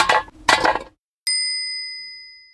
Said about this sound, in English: Tom is on the way home. Tom sees a can. Tom kicks the can. Bang, bang!